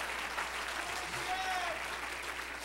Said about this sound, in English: If you love him, clap your hands unto him and bless his name.